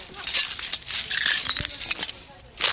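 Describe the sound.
Shards of broken glass clink and crunch underfoot in a room of a building where Afghans are sheltering, an irregular series of bright tinkling scrapes, with faint voices in the background.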